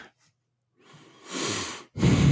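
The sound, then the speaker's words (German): A man who has had nose surgery breathes in sharply through the nose to show he can breathe through it: a short faint sniff, then a longer rising inhale and a second loud, airy sniff at the end. No one speaks. “Ihr hört, ich kann durch die Nase atmen.”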